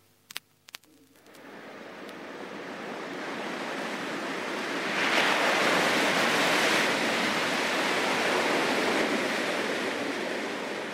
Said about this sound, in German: macht das legendäre Weiße Rauschen hörbar.